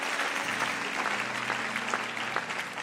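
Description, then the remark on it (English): Steady audience applause for the band, a dense crackle of many hands clapping at a fairly even level, with a low sustained hum underneath throughout. “Give it up for the band.”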